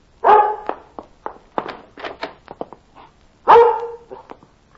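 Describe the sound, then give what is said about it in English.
A dog barks repeatedly and excitedly, with two loud, full barks at the start and near the end and a rapid string of shorter yaps in between, clear. “Oh, Lord love the foolish dog, but I'd hate for the dog catcher to be getting him.”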